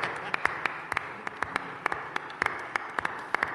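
Scattered, uneven hand claps from a small group applauding a writer guest after a joke, sharp, over a steady background hum, with no one speaking.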